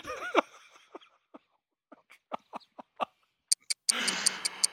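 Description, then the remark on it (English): A loud clock ticks in sharp, evenly spaced clicks, growing brighter near the end before a rushing wash of noise swells under the final ticks. “Speaking of hands, I think I see the hands of the doom clock over there that are ticking very loudly.”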